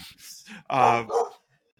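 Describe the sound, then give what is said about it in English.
A dog lets out two loud barks at another dog in quick succession, the first longer and throatier, after a brief murmur of voice; then it falls quiet. “Dog sees other dog.”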